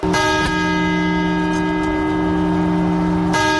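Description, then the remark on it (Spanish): The COPE radio network's large clock bell chimes loudly at midnight, ending the year 2008: two quick strikes at the start and a third after a long pause, each leaving a rich, ringing resonance that hangs in the air. “Y comienzan las campanadas.”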